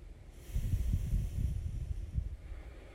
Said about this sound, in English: We're going to start by first gently closing your right nostril and just inhaling deeply in and out of the left nostril only. I want you to get a hang of one-sided left nostril breathing to start. Let's give it a try.